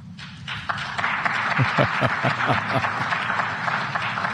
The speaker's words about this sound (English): Not a lot of eruption of clapping, right? All these folks with their hands on their chins.